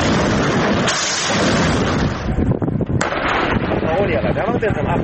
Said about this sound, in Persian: تصاویری که حزب الله لبنان از اقدام روز جمعه اش در شلیک راکت به سوی اسرائیل منتشر کرد.